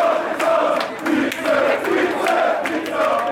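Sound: football fans chanting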